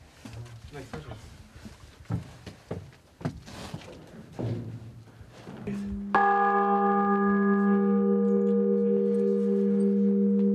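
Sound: church bells ringing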